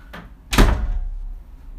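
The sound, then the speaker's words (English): A bedroom door swings shut, a soft latch rattle followed by one solid, firm thud with a brief low rumble trailing off. No one speaks. “Had to close my bedroom door because I don't want my neighbors getting a free concert.”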